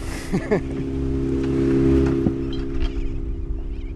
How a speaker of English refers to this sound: We take a boat and go looking for tuna.